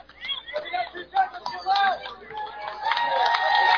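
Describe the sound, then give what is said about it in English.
A baseball stadium crowd at a Trappers game murmurs and shouts in the top of the eighth inning, with two outs and an 0-2 count. The noise swells louder and denser over a few seconds, with scattered clapping building toward the end as the crowd claps along. “Crowd getting loud here.”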